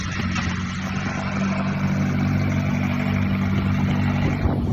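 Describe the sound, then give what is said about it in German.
A McLaren sports car engine rumbles steadily with a deep, continuous drone and rising revs as the car pulls away and drives out, loud throughout with no voices. “Der die Karre da rausfährt. Ist doch egal. McLaren.”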